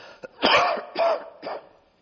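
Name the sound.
coughing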